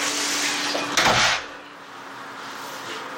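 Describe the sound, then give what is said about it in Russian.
The second kitchen drawer is pulled open to take out a cloth, with a short scraping slide and a soft knock, over a steady room hiss, with no one speaking. “Второй ящик, возьми тряпочку, где нарисован новогодний сюжет.”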